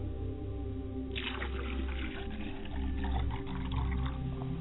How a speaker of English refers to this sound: I set a glass of water. I pour a glass of water. For my mother's side of the people, that they may quench their thirst and that they may never be thirsty. I pour a glass of water for my father's side of the family.